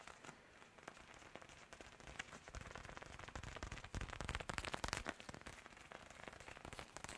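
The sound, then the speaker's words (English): Steady rain patters and crackles across a surface for several seconds, a dense, continuous hiss of drops that swells slightly toward the middle, fairly quiet and with no voices. “Maybe we can do some of the falling rain.”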